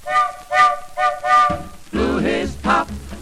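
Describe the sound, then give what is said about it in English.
A locomotive whistle blown by the engineer gives four short, evenly spaced toots, followed by longer wavering, wailing tones over a low rumble, with a slightly muffled, old-recording quality, from a Decca 78 record of a polka song. “They kept singing and they wouldn't stop till the engineer blew his whistle.”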